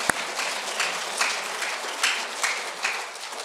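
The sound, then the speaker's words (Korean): A church crowd applauds steadily to give glory to God, many hands clapping in a dense, even wash of sound with a few slightly louder swells, and no one speaking over it. “우리 하나님께 멋진 영광의 박수 한번 부탁합니다.”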